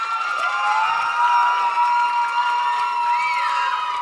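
An audience at the end of a service responds with sustained cheering and applause, a dense steady roar of many voices with high whoops and shouts rising over it for several seconds.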